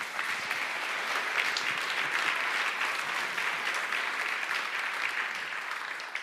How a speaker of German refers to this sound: Einen Applaus kriegt er trotzdem.